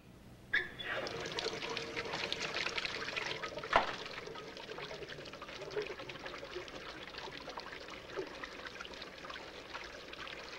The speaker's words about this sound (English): In the bathroom now, she pours water into the basin and loosens her hair.